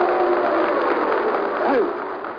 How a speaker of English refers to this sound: Ladies and gentlemen, I want to ask your pardon, but I want to address myself to that little group in this hall that's booing.